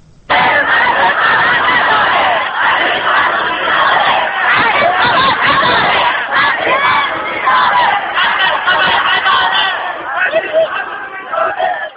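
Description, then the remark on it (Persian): A large crowd of medical students on the third day of a sit-in shouts and chants loudly and continuously in the courtyard of Iran University of Medical Sciences, protesting the university's dissolution; many voices overlap into a dense, echoing roar that barely lets up. “این صدای فریاد دانشجویان متحسن در صحن دانشگاه علوم پزشکی ایران است.”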